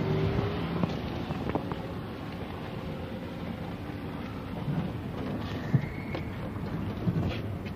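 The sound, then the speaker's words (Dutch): A car engine idles steadily, a continuous low rumble with a few faint knocks and clicks over nearly eight seconds and no voices; the car's exhaust is leaking at the flange. “Hij loopt lekker hoor, die auto.”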